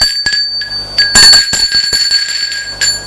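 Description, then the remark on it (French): A doorbell rings with bright, high metallic tones that sustain throughout, struck again several times in an irregular series, the loudest burst near the middle. No one speaks. “On sonne à la porte.”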